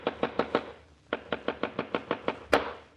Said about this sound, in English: How long do you expect me to sit in this room listening to people pounding nails? That's four moldings fixed. Only two to go.